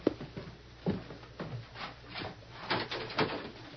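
A door being opened: a string of short clunks and scraping rattles spread over a few seconds, moderately quiet, with no voices.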